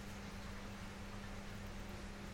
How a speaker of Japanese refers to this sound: けど、そうしていると扇風機の音が聞こえなくなっていたよね。扇風機の音が無意識の世界に入ってしまっている。と言っても、今 私が扇風機の話を出したことによって扇風機の音が意識に上ってきちゃったね。